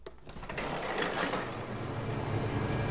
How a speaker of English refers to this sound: We're outside the shop of Pantheon Guitars. I'm just getting ready to go into work. Opening my coffee, smoking a cigarette before I start. I gotta pull open the fire door.